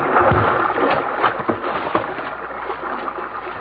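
Water sloshes and splashes steadily around a small rowing boat, with a few sharper splashes and knocks as it moves along the river, fairly loud.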